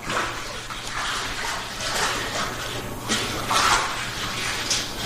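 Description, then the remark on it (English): Cheese culture is poured straight down the length of a cheese vat holding about 4,000 pounds of milk, a continuous splashing wash that swells and fades over several seconds, with occasional clinks and bumps in the background. “Pour it straight down the length of the vat.”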